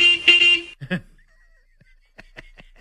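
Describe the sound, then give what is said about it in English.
A shuttle bus horn around the stadium in Foxborough gives one loud, sustained honk lasting under a second, followed by faint voices and light background clatter. The bus is dropping Winovich off and going to pick up the next player. “Was that Stidham in the background riding around the stadium?”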